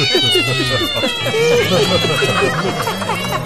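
Several cats meow loudly and continuously, their rising and falling cries overlapping over a busy, scurrying background as they chase released mice, having dropped the candles they held.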